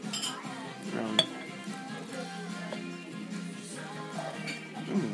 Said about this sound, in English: Just pouring the rest of my batter on. Pouring the rest of my butter. I mean, the rest of my keo, I should say.